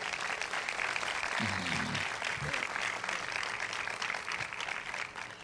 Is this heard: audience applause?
yes